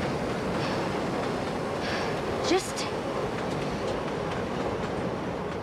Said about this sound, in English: She stands on the tracks as a train speeds towards her.